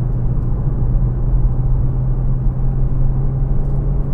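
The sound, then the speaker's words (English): A steady, low engine drone of a car with a 6-speed manual transmission runs throughout, heard from inside the car with a constant deep rumble and faint whir, no voices present. “So, just so you know, this is only about the third or fourth time I've driven this car.”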